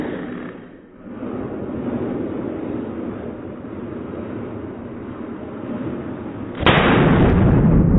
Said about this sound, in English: To illustrate this point, they did slow motion of a balloon inflating and popping. I like this sound.